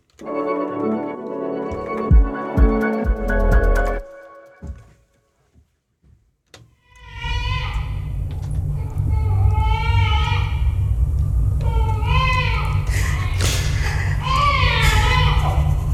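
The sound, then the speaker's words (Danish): After a short burst of music and a few thuds, a baby wails in repeated rising cries over a steady, low, droning ambient tone that hums beneath it throughout. “Der findes vel ikke meget mere gruopvækkende lyde end babygråd tilsat dyster stemningstone.”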